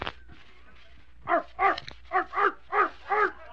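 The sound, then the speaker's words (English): A man imitates an Airedale dog barking, voicing six evenly spaced woofs in a steady rhythm, after a brief sharp sound at the start. “You don't recognize the Airedale on the Pipsnickel Puppy Pie program?”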